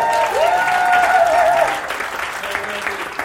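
An audience applauds for about three seconds, dense steady clapping that is loudest early and then eases off, with a long, wavering whoop or whistle over the first half.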